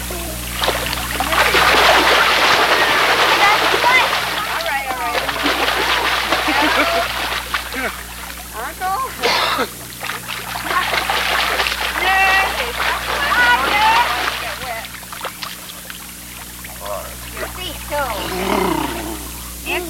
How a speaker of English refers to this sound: Are you looking at it? The water goes over the top.